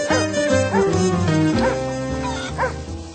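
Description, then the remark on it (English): A dog barks and yips several times in quick, uneven bursts, loud, over a steady sustained tonal background. “The cat yowled at the chickens, and the dog barked at the cat.”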